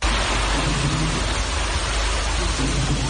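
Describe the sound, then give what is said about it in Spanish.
A steady, loud roar of floodwater rushing through the streets of the flooded centre of the autonomous city of Melilla after storms and heavy rain, a dense continuous wash of noise with low rumbling underneath and no voices. “Es el agua al discurrir en tromba por las calles de la ciudad autónoma.”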